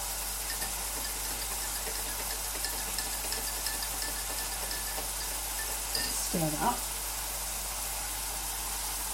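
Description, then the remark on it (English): A stock cube in boiling water being stirred in a 250ml jug, with a brief clink and swirl of a spoon partway through, over a steady hiss like food sizzling in a pan. “Stir that up.”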